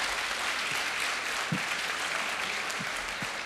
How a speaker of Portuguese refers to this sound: Aleluia! Aplaude Jesus aí, gente.